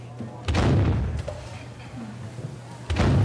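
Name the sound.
cannon fire sound effect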